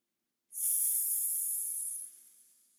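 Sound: imitated snake hiss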